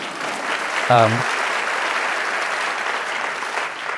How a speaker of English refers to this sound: Yeah, applause for Lenore.